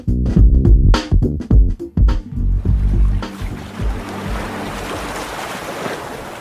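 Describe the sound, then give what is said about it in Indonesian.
Ocean waves wash onto a beach on the same stretch of coast as Dampo Awang Beach in a steady roar, with heavy gusts of wind buffeting the microphone at the start before the surf settles into a continuous hiss. “Nah, ini masih satu deret dengan Pantai Dampo Awang.”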